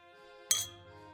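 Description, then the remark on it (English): A single bright clink of glasses touching in a toast, sharp, with a brief shimmering ring that fades quickly over a quiet, steady background hum. “Well, cheers to that.”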